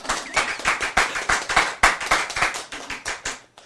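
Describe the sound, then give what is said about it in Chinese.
An audience claps hands together, a dense, uneven patter of sharp slaps that keeps up steadily for several seconds at moderate loudness, with no talking over it. “赶快来持，拍手。”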